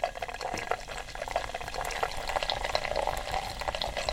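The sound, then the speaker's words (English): Guinness stout pours steadily into a glass, forming a good foam head, a continuous foamy gurgle and fizz lasting a few seconds with no talking. “Okay, so let's do some more pouring.”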